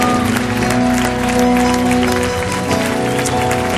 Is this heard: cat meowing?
no